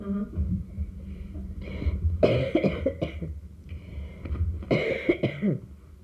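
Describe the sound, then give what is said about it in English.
Rough coughing from someone whose throat burns comes in two bursts a couple of seconds apart, each a raspy, throat-clearing hack, with low, quieter breathing and rustle between them. “My throat burns.”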